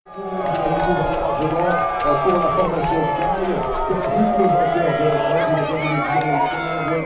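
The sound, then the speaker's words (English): A large crowd at the start podium of a cycling race boos loudly and steadily for about seven seconds as Chris Froome goes to sign on, many voices droning in overlapping low, sustained tones with scattered shouts mixed in. “Well, that sound that we heard there was some booing that was captured by you”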